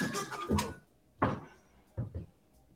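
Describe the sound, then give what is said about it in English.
A door is opened, with a sharp rattling clunk followed by two shorter knocks of the latch and frame, then quiet. No one speaks. “I'm not leaving, so you better open this door.”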